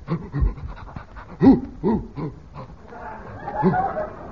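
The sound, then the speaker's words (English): A policeman's bloodhound lets out several short, gruff barks in quick succession, mixed with heavy panting and snuffling, followed by a breathy, rustling stretch. “A policeman and a doggy.”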